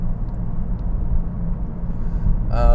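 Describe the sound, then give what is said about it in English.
Steady low rumble of a car engine and road noise inside a moving vehicle, loud and continuous, with a brief higher-pitched tonal whine creeping in right at the end. “This car is not a good example of that theory because this car is really noisy.”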